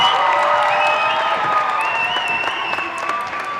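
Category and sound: crowd, audience applause and cheering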